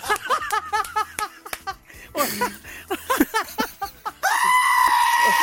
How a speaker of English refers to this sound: Does the screaming goat work? Imagine waking up to that in the middle of the night.